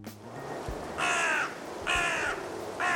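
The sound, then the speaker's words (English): Crows roosting in the city of Troy caw loudly, three harsh calls spaced about a second apart, the last cut short, with no voices over them. “Thousands of crows chose the city of Troy to roost late last year.”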